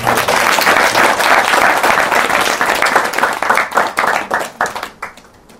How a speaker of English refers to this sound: Nice. Round of applause for